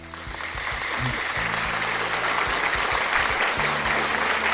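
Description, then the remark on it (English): A crowd applauds steadily, dense clapping that rises quickly and holds loud for several seconds, with low tonal notes sounding faintly underneath. “I just feel like, yes, like, round of applause.”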